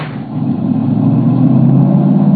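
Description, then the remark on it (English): A car engine roars loudly, its low rumble swelling over the first half-second and then holding steady as the vehicle drives hard. No voices are heard. “Is Benton in that car?”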